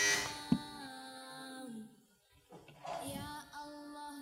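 A quiz buzzer, pressed first by a contestant on a quiz show, sounds: a bright, harmonic electronic tone holding for about two seconds, then after a short gap a second similar burst, fairly loud and clear with no talking.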